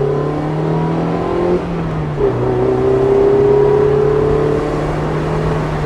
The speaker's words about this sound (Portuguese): E não é um carro de dois lugares qualquer, é um Mazda MX-5.